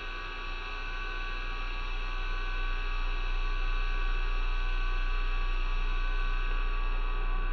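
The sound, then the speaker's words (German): A steady electrical hum from a radio receiver, layered with faint static hiss and fixed tonal whines at different pitches, holding constant throughout with no voices. “Manche zerrissen, manche klar, manche hallend, manche kratzig, unterbrochen von Pfeifen in verschiedenen Höhen. Ein Brummen, ein Dröhnen.”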